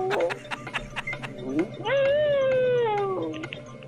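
A 14-year-old dog named Holly lets out a long, wavering howl lasting over a second, rich in harmonics and fairly loud, with a couple of short rising whines just before it.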